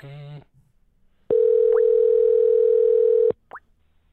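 A loud, steady telephone dial tone hums at a constant mid pitch for about two seconds while a phone number is being dialed, preceded by a brief voice-like sound and followed by a quick rising chirp.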